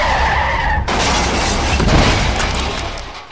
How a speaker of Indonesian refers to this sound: Weh, ada yang tabrakan?